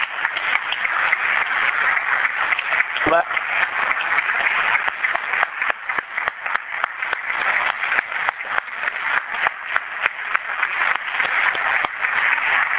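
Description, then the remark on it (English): A steady round of applause from a crowd for the people who worked on the budget, many hands clapping in a dense, continuous wash of sound that holds at an even level for about thirteen seconds, with no one speaking. “So I think we owe them a round of applause as well.”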